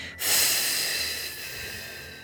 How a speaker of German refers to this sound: Atmen Sie mal tief durch, so richtig langsam, ganz tief und dann ganz langsam ausatmen.